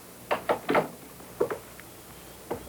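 A worried husband knocks on a bedroom door: a quick group of three knocks, then a pair, then a single rap, each sharp, with otherwise quiet surroundings.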